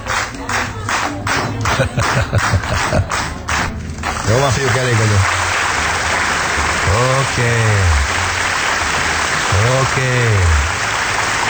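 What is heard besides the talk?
applause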